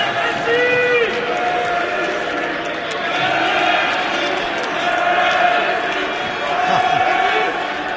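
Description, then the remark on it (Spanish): The FC Barcelona substitutes on the bench shout and cheer together in excitement after Messi's first goal, their overlapping voices loud and sustained throughout, with a few higher whoops cutting through the steady roar of yelling. “Cuando el gol de Messi, tenemos el sonido del banquillo del Barça, jugadores del Barça, suplentes, cuando ha marcado el primer gol de los dos que ha marcado Messi.”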